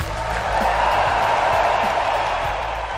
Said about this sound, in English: More than 15,000 fans in Prague applaud Rod Laver as he takes the stage for the presentation ceremony at the end of the inaugural edition of the Laver Cup. It was a heartfelt ovation for the 79-year-old Australian, who was in attendance over 3 days